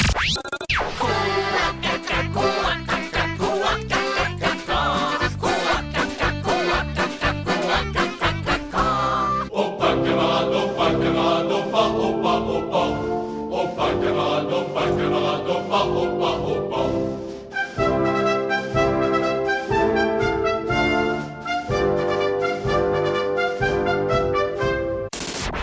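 A musical medley of the Swedish children's song Små grodorna, originally a French military march, blending into an onion song, loud and continuous, opening with punchy staccato beats before the arrangement shifts twice to smoother melodic passages.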